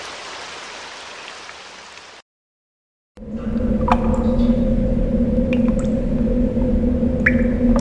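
Steady rain hiss during a thunderstorm, a brief gap of silence, then scattered water drips plinking over a low, constant rumble, with a few sharper drops standing out.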